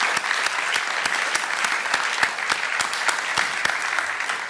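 Another round of sustained applause from an audience for a speaker, a dense steady patter of many hands clapping at even loudness, with a few sharper individual claps standing out and no voices.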